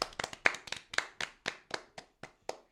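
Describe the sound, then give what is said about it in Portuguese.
A short burst of applause: about a dozen crisp, sharp hand claps in a steady, even rhythm, moderately loud, with no voices over them. “Un aplauso, non?”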